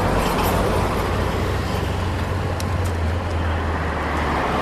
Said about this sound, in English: We're in downtown Nairobi. Cars are coming from the left, a minibus from the right, and people are crossing the road in between. Traffic in Nairobi can be tough.